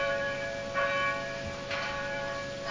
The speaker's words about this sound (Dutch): Nou, hou maar op. We hebben het al gehoord. Klokken. Hè? We hebben de klokken al gehoord. Zo mooi zijn ze ook hier niet.